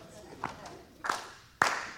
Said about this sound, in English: All right. Ready? Here we go. Everybody can clap along if you want. This is fun, right? Here we go.